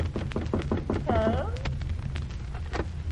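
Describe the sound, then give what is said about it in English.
A quick run of sharp knocks on a door, repeated several times in an uneven rhythm, with a brief tonal vocal-like sound partway through and faint background noise. “Go on, knock on the door.”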